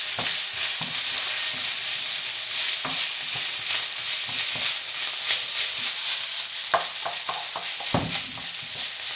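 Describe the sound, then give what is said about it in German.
Steady, loud sizzling of oil frying food in a wok, with repeated clanks and scrapes of a utensil stirring the food in the metal pan. No one speaks. “So, ein bisschen anbraten.”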